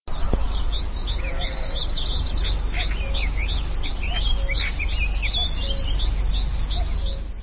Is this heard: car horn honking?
no